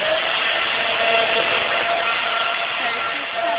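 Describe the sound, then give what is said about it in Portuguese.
An electric drill runs steadily for several seconds while someone works with it, a loud, continuous whirring hum with a faint high whine riding on top and no pauses. “Eu não tô te ouvindo, porque ele tá mexendo aqui na furadeira, então não sei como eu ouvi.”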